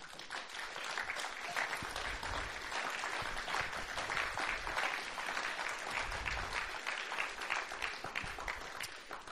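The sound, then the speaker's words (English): An audience claps together in sustained, dense applause, a steady wash of many hands at fairly loud volume that carries on evenly with no voices rising above it. “I think we should just give each other applause, really.”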